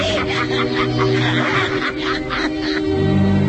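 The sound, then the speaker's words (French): A shrill, raspy old woman's cackle bursts out in loud, quick, uneven, honking pulses for a few seconds. It is the cackle of a shrewish old hag, used as an ingredient in a spell to age the voice. “Pour vieillir ma voix, un caquet de vieille mégère.”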